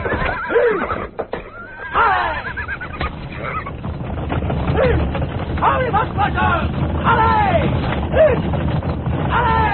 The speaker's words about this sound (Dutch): De paarden zijn op hol.